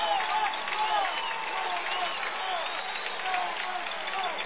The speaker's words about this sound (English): Here come the Sons of Thunder. This Lounge crowd coming to their feet.